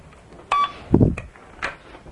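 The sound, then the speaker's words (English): A toy cash register gives a short, bright electronic beep, then a dull plastic clunk, followed by two briefer chirpy tones. No one speaks. “Hey, if you don't talk to me, I'm going to have to take that cash register away, and I don't want to do that.”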